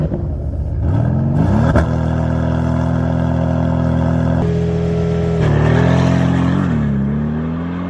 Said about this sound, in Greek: Ο εξακύλυνδρος του αυτοκίνητου αυτού, να, είτε στην turbo μορφή του, είτε και στην απλή μορφή του, έτσι, με τις βαλβίδες, είναι μουσική. Ακούς.